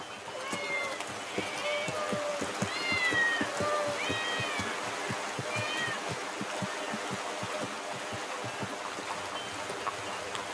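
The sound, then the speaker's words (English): Several cats meow in overlapping, drawn-out cries, mostly in the first half, over a steady busy background of murmuring noise and scattered clicks, in the town of Bubastis near the town temple. “Why are there so many cats here?”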